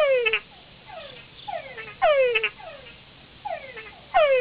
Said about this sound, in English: Meet the Toongara frog.